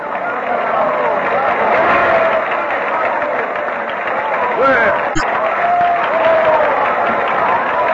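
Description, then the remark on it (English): A large theatre audience at Castle Garden cheers and applauds a singer's performance in one continuous, loud roar of clapping and shouting voices, holding steady for the whole stretch with no pauses. “They're shouting themselves hoarse.”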